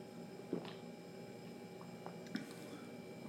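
Soft sipping of Breaking the Waves, a 10% American Imperial IPA from Evil Twin Brewing Company: two brief wet slurps about two seconds apart over a quiet background hum, with no talking.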